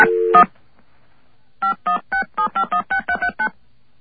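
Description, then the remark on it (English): A brief tone, a pause, then a quick run of about ten touch-tone telephone keypad beeps, short evenly spaced dual-pitched chirps, clear, with no voices. “Let's see if our recording's been changed yet.”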